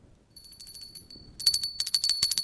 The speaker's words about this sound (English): Look at that. It's a tiny little bell.